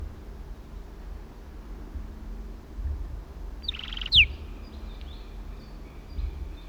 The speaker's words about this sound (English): Southern lapwings.